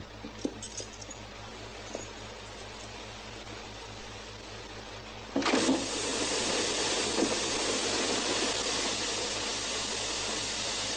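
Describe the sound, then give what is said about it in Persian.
Water abruptly bursts from a leaking pipe into a loud, steady gushing spray midway through, replacing a quieter hiss with a few faint clinks near the start, and roars on continuously to the end. “هی بله این آب دیگه چیه؟”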